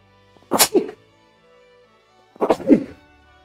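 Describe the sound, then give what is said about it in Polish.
Two forceful sneezes about two seconds apart, each a sharp breathy burst with a quick vocal catch, loud with silence around them. “Nie wiem jeszcze, jak przeciwdziałać temu, żeby nie kichnąć.”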